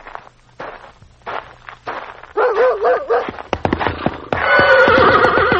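A horse whinnies loudly with a wavering, trembling call while hooves clop in sharp, uneven strikes; a dog named Bullet barks and scares the horse amid the commotion, which swells to a dense, agitated burst at the end.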